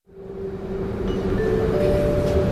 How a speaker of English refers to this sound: I've just boarded the S5 train at Hannover Station, heading towards the historic town of Hamelin.